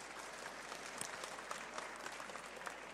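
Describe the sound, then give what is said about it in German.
An audience applauds steadily to welcome a guest author, a dense, even wash of many hands clapping with scattered sharper claps popping out, sustained for the full few seconds without voices. “Und deswegen würde ich sagen, wir begrüßen Sie erstmal mit einem kräftigen Applaus”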